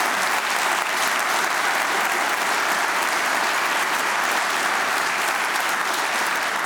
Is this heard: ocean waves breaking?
no